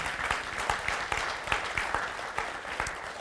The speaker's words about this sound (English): You can clap for that. That's cool.